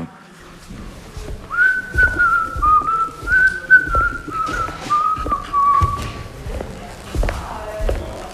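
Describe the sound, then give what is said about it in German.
A celebrity whistles a short, slow melody of sustained notes that gently step down in pitch, clear, over scattered soft thumps and taps in the background. “Also, welche Promis können pfeifen?”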